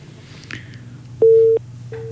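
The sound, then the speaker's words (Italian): A telephone busy tone after a call hangs up: a faint click, then loud, flat electronic beeps in an on-off pattern, one long pulse followed by another starting, over a low hum. “Bene, allora rientriamo in studio, la telefonata è terminata,”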